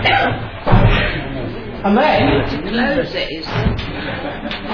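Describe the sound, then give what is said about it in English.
A door is closed with a dull thud near the start as a talk begins, followed by another bump, while people murmur and chuckle in the background. “Okay, I'm going to briefly introduce the day and what we'll be talking about today, and the topics and speakers that we have, while the door's being closed.”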